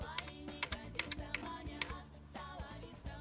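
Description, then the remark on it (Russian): A woman flips quickly through the pages of a weekly planner, a run of crisp papery flicks in a fast, uneven rhythm over a soft, steady background tone. “Маша листает еженедельник.”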